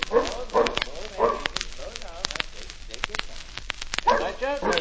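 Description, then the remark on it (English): A large dog that looks like a lion, too big to keep in a store, barks several times in loud, irregular bursts, with a few quicker yips mixed in over sharp clattering noises and faint voices in the background. “A dog that looks like a lion.”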